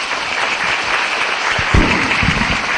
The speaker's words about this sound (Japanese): もう一度大きな拍手をお願いいたします。